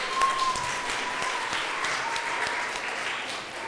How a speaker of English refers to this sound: Should we give Barry a round of applause?